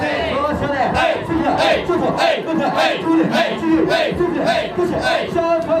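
A group of male hosts at a Japanese host club loudly chanting in rhythmic unison, a champagne call (champankoru) putting the female customer at the centre, with repeated shouted phrases, hand clapping and bursts of cheering, steady and energetic throughout.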